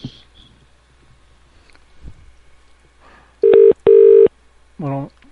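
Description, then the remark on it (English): Two loud, steady telephone dialing tones beep in quick succession as someone calls a person back, after a stretch of quiet, faint background noise, followed by a brief third electronic tone. “Okay, should we call him back? Oh, definitely.”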